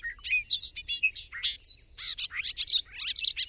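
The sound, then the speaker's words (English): A bobolink, a type of blackbird, sings in a rapid, bubbly jumble of high metallic notes, tumbling continuously with no pauses, and no voices alongside. “If you had to pick the bird most like a superhero, the bobolink might not be an obvious choice.”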